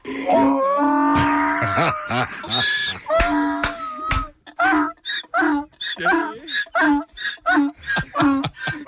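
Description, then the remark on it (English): A donkey brays loudly as it is reunited with its owner after two months of quarantine, starting with long, harsh, wavering honks and breaking into a rapid, rhythmic series of rising and falling hee-haw gasps, with a person's voice mixed in. “The reuniting of the donkey and the owner.”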